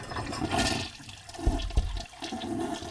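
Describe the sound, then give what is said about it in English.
A toilet flushes in a restroom with a loud, rushing gurgle of water that swirls and drains for a few seconds, with a couple of low thumps partway through. “And so you get out of the restroom and away you go.”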